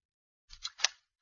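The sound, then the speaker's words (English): Newspaper pages rustle and crinkle in three quick bursts as the paper is opened and handled, with no voices. “Here, I brought in the paper. Now, let's take a look at the one ad.”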